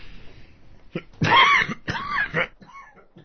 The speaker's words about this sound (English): having a little cough going on, and he pressed the cough button.